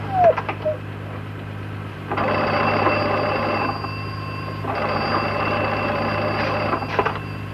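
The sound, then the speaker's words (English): An old telephone bell rings twice in long, buzzing bursts of about two seconds each, separated by a short pause, loud over a steady low hum. “Oh, the phone.”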